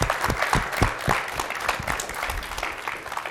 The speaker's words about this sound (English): I think everybody completely agrees with you, and before we start, I think the president and libraries all deserve a round of applause for what they've done this year.